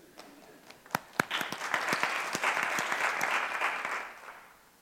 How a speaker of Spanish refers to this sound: Un aplauso para Visual Studio.